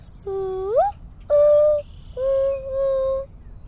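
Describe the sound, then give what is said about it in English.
A 7-year-old child from Kalamazoo, Michigan imitates a mourning dove call: three soft, hooting coos, the first sliding upward in pitch, followed by two steady, longer notes, over a faint low hum. “That is probably the mourning dove because I can make the call.”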